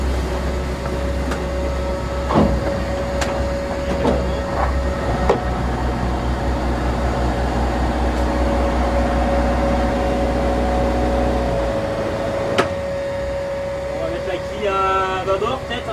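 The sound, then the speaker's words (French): The motor of a racing monohull sailboat heading for the Vendée Globe drones steadily as it leaves port, with a low, even hum and a sustained mid tone, broken by a few sharp clicks and knocks, until the rumble drops away near the end and brief higher tones flutter. “Étonnant ce bruit de moteur sur un bateau qui part pour un tour du monde à la voile, et bien pas tant que ça.”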